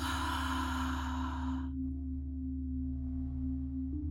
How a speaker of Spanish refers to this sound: Sostén tu respiración por un momento, permitiendo que la plenitud del aire se asiente en tu cuerpo. Exhala fuerte por la boca.